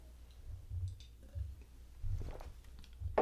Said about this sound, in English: So I'm going to take a sip of water here.